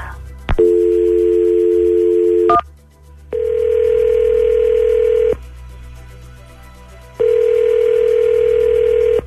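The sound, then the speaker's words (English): A steady telephone dial tone for about two seconds as a phone call is placed, followed by two long, even ringing tones separated by silent gaps, loud and clear with no voices. “Let's give him a phone call, and let's see what happens, okay?”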